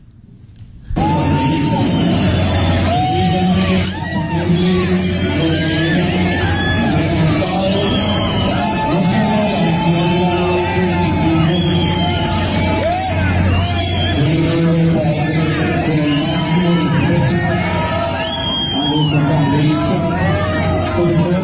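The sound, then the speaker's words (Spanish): At a tense shareholders' meeting, shareholders jeer, shout and whistle at company president Dr. Ricardo Roa in a loud, continuous roar, shrill whistles cutting through the din now and then, sustained for about twenty seconds without letting up. “Hoy precisamente, como usted lo menciona, la asamblea de accionistas estuvo tesa y muy tensa. Chiflaron al doctor Roa.”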